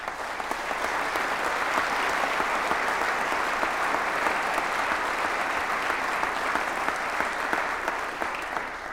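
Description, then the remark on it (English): Sustained audience applause, a dense wash of many hands clapping steadily at an even loudness for the full nine seconds, with no voices standing out. “Heather, we applaud your service.”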